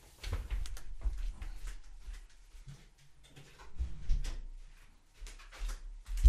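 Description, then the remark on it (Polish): Shuffling and soft knocking as an office door is handled and pushed shut, with a few muffled thuds and a sharper click right at the end; no one speaks. “Jeszcze w dodatku nie zamknąłem drzwi do mojego gabinetu i pobudzę zaraz moje wnuki.”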